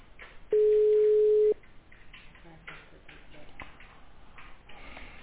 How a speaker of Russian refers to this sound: Не дозвонил. Звонят, а он не берет трубку.